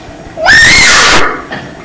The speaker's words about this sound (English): if you need to yell, you have to go in another room to do it.